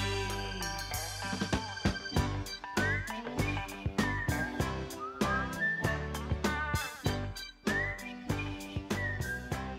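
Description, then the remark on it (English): A whistled melody rises and glides over a full band backing, with steady drums and bass underneath; the whistling sits clearly on top, carrying the tune through the last chorus of a 1970s album's final track. “whoever whistles that last chorus has provided a happy, sad goodbye as the band could possibly offer us.”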